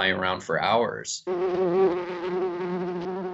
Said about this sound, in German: Hummeln haben sich über Jahrtausende zu sehr effizienten Fliegern entwickelt. Mit der passenden Nahrung können sie stundenlang fliegen.